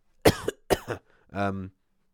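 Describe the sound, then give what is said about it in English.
Two sharp coughs in quick succession, followed by a short voiced throat-clearing hum, with no talking. “See, you got a bit of a cough.”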